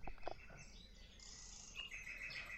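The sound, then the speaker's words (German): Several birds chirp and trill in a quiet forest, their high calls overlapping continuously against a soft background hum, with no voices present. “Hänsel, die Vögel werden die Krümel aufgepickt haben.”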